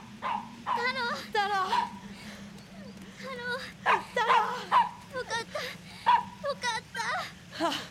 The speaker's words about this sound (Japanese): ワゴン車の前で飛び跳ねながら吠えます。